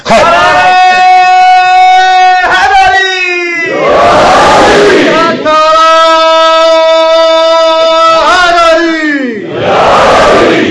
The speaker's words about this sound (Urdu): ایک صاحب میں نے اس لیے کہا کہ جو نعرے کا جواب آیا وہ ویسا جواب نہیں تھا کہ جیسا ہونا چاہیے تھا.